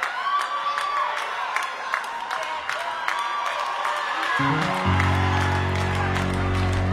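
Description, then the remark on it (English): An audience claps in a steady, even rhythm amid crowd noise and cheering; partway through, a low sustained musical tone comes in beneath the clapping. “Let's clap.”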